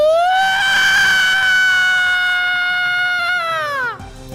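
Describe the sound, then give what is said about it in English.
A video game monster's shriek used as a scare effect: one loud, piercing, harmonic scream that rises sharply, holds a steady high pitch for about four seconds, then bends downward and cuts off. “I pulled my cans away from me. And it shrieks.”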